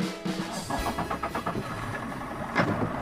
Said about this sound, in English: fires up the engine of his motorboat at the Belhaven Marina in Alexandria, Virginia, and heads out to his version of an office cubicle, the wide, windy, greenish-gray expanses of the Potomac River.